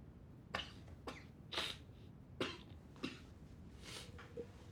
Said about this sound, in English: I was really coughing.